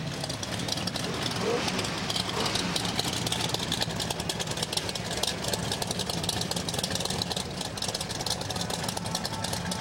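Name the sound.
car engine idling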